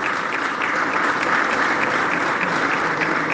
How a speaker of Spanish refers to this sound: quien ha estado a cargo de la presidencia pro tempore, por el cual pido un fuerte aplauso por el trabajo que ha realizado a lo largo de todo este año.